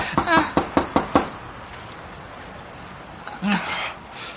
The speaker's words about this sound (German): Ich klopf mal. Es rührt sich nichts. Und die Tür ist verschlossen. Ich klopf noch mal. Vielleicht war ich noch nicht laut genug.